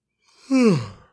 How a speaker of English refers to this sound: You want to yawn? Like you were just yawning?